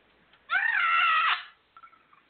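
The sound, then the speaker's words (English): A person imitates a scream: one loud, shrill, sustained shriek lasting under a second, piercing, followed by a few faint, brief sounds as it dies away. “My turn with a verb. I'm going to go with scream.”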